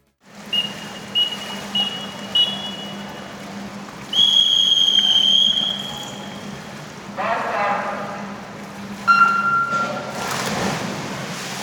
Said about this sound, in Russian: Эти звуки уже знакомы читателям нашего журнала. В данном случае это старт спортсменов на одной из дистанций чемпионата России по плаванию спорта слепых. Турнир проходил с 29 апреля по 4 мая 2023 года в городе Раменское Московской области.